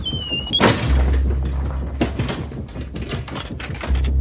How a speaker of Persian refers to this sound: آتم از اتاق میاد بیرون و درو قفل میکنه.